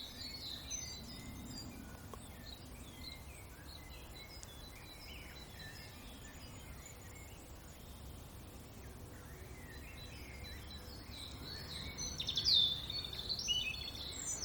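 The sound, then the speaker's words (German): A European robin sings close by in high, thin, warbling phrases that swell near the end, while a blackbird sings more faintly in the background over a quiet outdoor hush. “Und jetzt lauschen wir nochmal dem Rotkehlchen, das hier ganz nah sitzt.”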